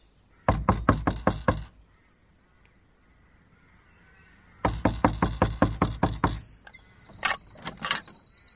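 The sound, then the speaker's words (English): Two quick bursts of loud knocking on the wooden door of a lowly dwelling at 10 o'clock, about eight raps each with a pause between, followed by a few faint, higher squeaky sounds. “But you can be sure that by 10 o'clock I was knocking at the door of that lowly habitation.”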